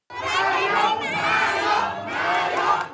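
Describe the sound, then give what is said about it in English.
A large crowd of Move Forward party supporters in Thailand chants "Prime Minister" in unison after the party's election victory, the phrase shouted three times in a steady rhythm with brief dips between repetitions, loud and energetic throughout. “Supporters of the Move Forward party shouted Prime Minister after a resounding victory in the Thai elections.”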